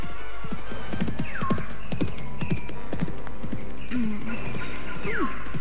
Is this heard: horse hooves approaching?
yes